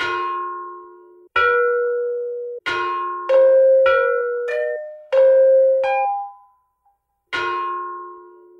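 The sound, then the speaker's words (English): A set of ancient bells, of the same style as bells held at the Smithsonian, struck one after another, about nine clear strikes at differing pitches, each ringing out with a long sustained tone that sometimes overlaps the next, with no voices. “I found one set of bells that are not these particular bells, but they're the same style of bell that are at the Smithsonian.”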